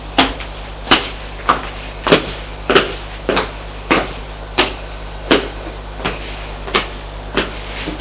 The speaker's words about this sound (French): Frappe à la porte. Entrez!